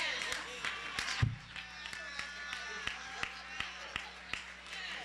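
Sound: audience clapping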